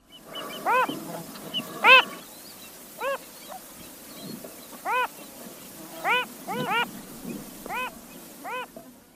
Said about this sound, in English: Like many fathers, the male phalarope tries to sing with usually more enthusiasm than melody.